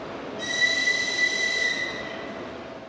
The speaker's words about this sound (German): Ein früher Donnerstagmorgen am Kiewer Hauptbahnhof. In dem wuchtigen Bahnhofsgebäude aus der Sowjetzeit ist viel los. Menschen eilen zu den Gleisen oder sie warten darauf, dass ihre Angehörigen ankommen.